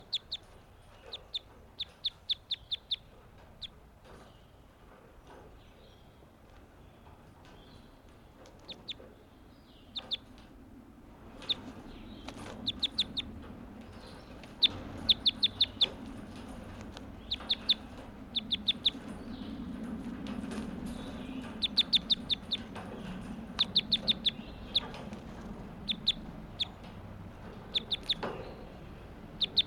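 Bird calls repeat throughout: short, high-pitched clucking chirps in quick bursts over a steady low background hum, with no voices.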